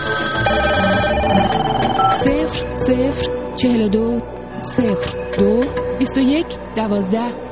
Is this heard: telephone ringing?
yes